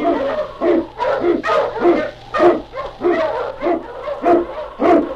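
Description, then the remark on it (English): King, an Eskimo husky sled lead dog, barks loudly, about ten sharp, eager yelps in quick, fairly steady succession, with a faint low hum running underneath. “King, the swiftest, strongest of Eskimo lead dogs, blazes the trail through storm and snow for Sergeant Preston as he meets the challenge of the Yukon.”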